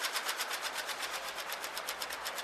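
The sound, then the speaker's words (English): A Solari split-flap train departure board flips rapidly, a fast, steady clatter of tiny plastic clicks rippling continuously for a couple of seconds, fairly quiet, with no voices. “You know, just hearing that sound makes me want to hop a train.”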